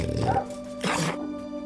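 An excited dog, Martha Stewart's dog Kublai Khan Paw Paw Chow Chow Chow, held in someone's arms, growls and lets out a sharp bark, two short, loud bursts over a steady background hum.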